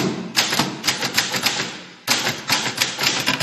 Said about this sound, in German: Oder hier, die Schreibmaschine.